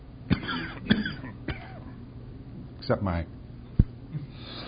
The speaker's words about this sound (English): Except this stupid cough.